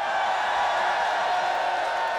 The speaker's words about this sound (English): A bit like in the desert, when the sun sets, it really does get quite cold, and it's a bit chilly out here on the Radio 3 stage. But I think, as you can hear from the crowd, there's an awful lot of them, and there's a great deal of heat out there.